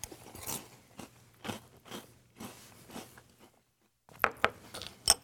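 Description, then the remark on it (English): Wet crunching of Cap'n Crunch cereal with milk being chewed, with a rapid series of loud bites and crackles, a short pause, then a few sharper crunches near the end. “I already like Captain Crunch. I already like Crunch Berries.”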